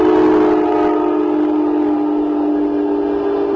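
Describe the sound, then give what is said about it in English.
A passenger train's horn blares in one long, loud, steady chord over a broad rumble of the train rolling past during a baseball game, with no voices. “Another train coming through right here next.”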